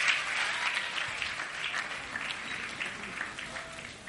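A church audience applauds themselves steadily for about four seconds during a sermon, a dense, even wash of many hands clapping at once with a few faint voices mixed underneath.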